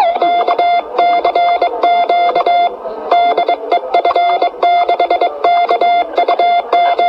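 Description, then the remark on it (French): A loud, steady Morse code tone keys out a CQ general call from the Radio Club's amateur radio station F6KUQ, in quick bursts of dots and dashes, with a brief pause partway through and no voices. “Alors là, en fait, je lançais appel, c'est-à-dire je disais CQ qui veut dire en morse appel général de F6KUQ.”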